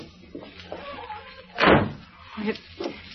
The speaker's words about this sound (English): Close that door.